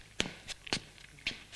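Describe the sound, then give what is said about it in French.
A few soft footsteps, around five or six, tap along at a steady walking pace as a woman opens the door and enters a ground-floor living room. Each step lands as a quiet, crisp thud in an otherwise hushed room. “Elle ouvre la porte et entre.”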